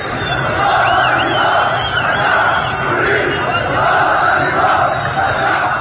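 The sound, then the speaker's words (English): A crowd of opposition supporters chants slogans against the government overnight in a suburb of the northwest city of Jisr Shagur, a dense, loud wall of voices in unison that stays steady throughout, with a few higher cries cutting through. “Small crowds of opposition supporters chanted slogans against the government in a suburb of the northwest city of Jisr Shagur overnight, according to a Facebook group.”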